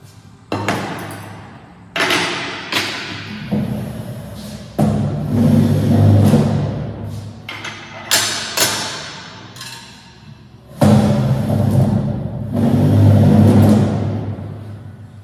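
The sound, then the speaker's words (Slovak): A loud, busy school canteen without soundproofing: repeated sharp clatters and clinks of dishes and cutlery ring out over a constant din of many voices, echoing and harsh throughout. “A tam vie byť hluk, takže poďme sa pozrieť na neodhlučnenú bežnú jedáleň, takže počujeme pozorne.”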